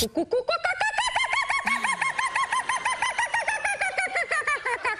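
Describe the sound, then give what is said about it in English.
A woman imitates a bird call with a loud run of rapid, rising-and-falling whooping notes that repeats in a steady chattering rhythm for about five seconds, no other talking. “Now, I don't know if Rocco's aware of how great mum is with her animals and her bird calls.”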